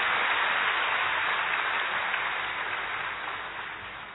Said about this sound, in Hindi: हम करतल ध्वनि से जोरदार तालियों से आपका स्वागत करते हैं।